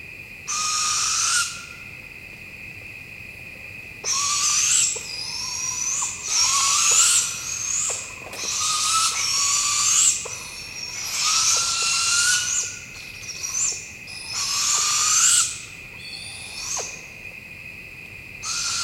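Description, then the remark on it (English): Young barred owls give a series of harsh, rising begging screeches, each lasting a second or two and repeated every few seconds, loud over a steady background hiss. “Young barred owls don't hoot, but they do make hair-raising screeches and other odd sounds. These are thought to be begging calls.”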